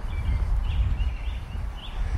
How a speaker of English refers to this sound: Carolina Wren.